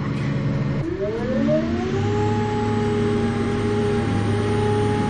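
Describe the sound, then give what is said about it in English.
A boat engine starts up as the boat is launched at the water after leaving the boathouse: after a low rumble, its tone climbs steeply over about a second, then settles into a loud, steady droning hum that holds to the end, with no voices. “Well, we could go faster, but we're starting up the engine of the boat there now, if you hear them.”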